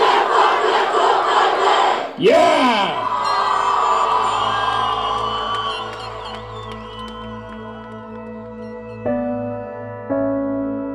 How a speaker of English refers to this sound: A lot of them were cheering, sort of doing, you know, some school chants and stuff. Hey, Bobcats! Hey, Bobcats! Stand up and cheer and let us know you're here!